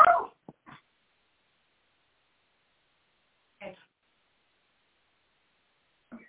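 A small dog and a cat squabble in short, sharp bursts: a loud yappy outburst at the start, then a few brief snarls and yips spaced out by long silent gaps.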